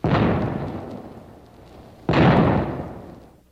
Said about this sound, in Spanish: ¡Hagan dos disparos para indicarles nuestra intención de atacar!